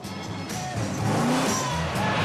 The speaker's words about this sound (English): the car loses grip on the snow and begins to weave from side to side.